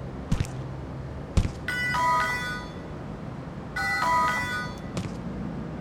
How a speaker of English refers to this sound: Try the buzzer again.